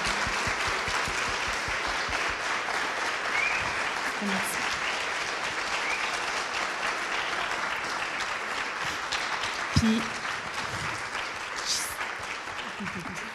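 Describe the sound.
Sustained audience applause fills the whole stretch, a dense steady patter of many hands clapping at an even loudness, with a few brief cheers or voices poking through near the end.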